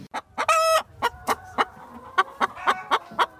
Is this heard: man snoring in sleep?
no